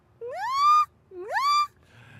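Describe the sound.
A voice imitates a high-pitched animal squeak twice, each call sliding upward in pitch and holding at the top, with a short pause between them.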